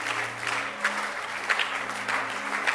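audience clapping hands

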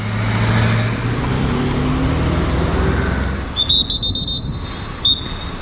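traffic jam

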